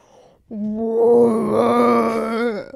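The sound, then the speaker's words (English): A single long, low moaning call from a human voice imitating a whale, steady and droning for about two seconds with a slight wavering quality, loud. “Whale.”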